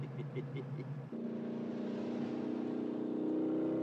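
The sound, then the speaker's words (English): A car engine drones, preceded by a second of choppy pulsing. It then settles into a loud, steady hum whose pitch climbs slightly as it revs near the end. “She's running good now, buddy.”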